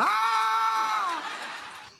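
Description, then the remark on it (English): A single loud, high-pitched scream held for about a second, then trailing off into a fading, breathy tail. No talking alongside it. “Just loud screaming just in their scream ear.”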